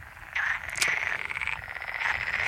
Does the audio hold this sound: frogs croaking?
yes